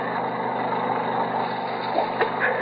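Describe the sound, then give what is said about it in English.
A small two-stroke generator engine drones steadily throughout, running down in a canyon, a continuous buzzing hum at an even loudness, with no voices and only faint fluctuations near the end. “The sound of a two-cycle engine was coming from below. Probably a generator.”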